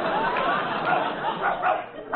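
A dog named Daisy barks in a few short bursts over a couple of seconds, muffled and narrow-sounding, with a busy, murmuring background.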